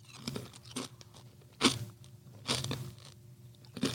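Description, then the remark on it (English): Loud, crisp crunches of Low Country Kettle Spicy Pimento Cheese potato chips being bitten and chewed, several sharp bursts at irregular intervals over a low background hum, with no talking. “Low Country Kettle Spicy Pimento Cheese Potato Chips.”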